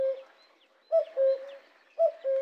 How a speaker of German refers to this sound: Den Gesang des Kuckucks. Den fand der Esel nämlich ziemlich arrogant. Ständig kuckuckt er im Wald herum und meint, er hätte die richtigen Töne erfunden. Kuckuck, Kuckuck.